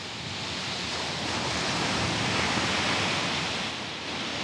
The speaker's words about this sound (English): As I walk to the waves, I'm thinking of the water and sand